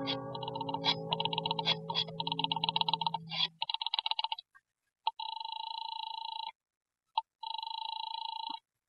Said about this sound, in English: I bolted the door, picked up the phone, and started to dial the number of Harvey's office. My hand was shaking so that I fumbled the dial and had to start again.